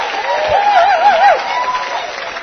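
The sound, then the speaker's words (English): Dense, steady applause from an enthusiastic audience at a live-webcast speaker event, loud throughout, with a wavering whistle rising and falling over the clapping partway through. “Boy, I tell you what, folks, this is an enthusiastic crowd.”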